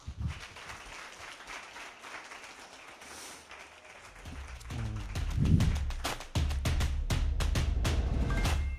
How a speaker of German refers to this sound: Gute Unterhaltung und viel Applaus.